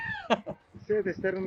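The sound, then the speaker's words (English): A sheep stuck in a ditch bleats, giving a few short, wavering, nasal cries in quick succession, fairly loud against a quiet outdoor background. “Yep, that sheep is stuck in that ditch.”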